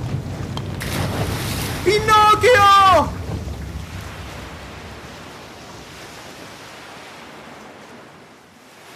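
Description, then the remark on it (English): Stormy sea with high waves and gusting wind roars steadily throughout; early on a voice shouts a single word over the rushing, churning water noise. “And the waves are so high and the wind is so strong and he's trying and trying to keep us afloat.”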